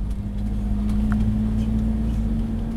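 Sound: small bus arriving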